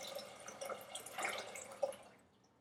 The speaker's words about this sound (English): I'm gonna do a little pregame routine right now, and I'm actually gonna start with some ginseng tea. So ginseng is a herb that I'm just gonna put some purified water in here.